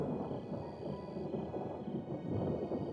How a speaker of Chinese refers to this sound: 害怕打雷？啊，你进来吧。躺上来。好了好了，打雷而已啊。